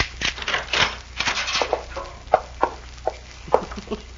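Metallic scraping and rattling as a key on the other side of a room door is pushed out of the keyhole, followed by several sharp clicks as the lock is worked open with a spare key, with no voices.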